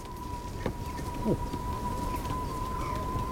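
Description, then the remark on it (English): A pigeon carrying a whistle, just launched, flies off into the wind. Its thin, steady whistling tone holds at a constant pitch throughout, fairly faint, over a soft outdoor hiss with a couple of brief chirps. “But of course they did come back, carrying their whistles behind them.”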